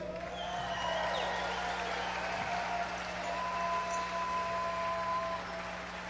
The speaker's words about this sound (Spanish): Buenas noches, Guadalajara. Estamos muy contentos. Primero quisiera un aplauso para ustedes por hace un tiempo.